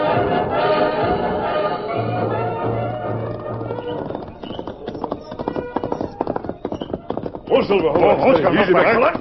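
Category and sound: animal, horses galloping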